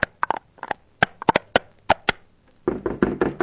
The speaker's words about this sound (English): Well, Paul saw the lantern in the old North Church and scrambled to tell the people that the British were coming. He came to the first house and pounded on the door.